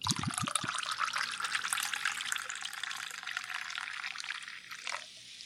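Liquid pours steadily for about five seconds, a bright splashing rush that stays fairly even before tapering off at the end, with a few low knocks at the start.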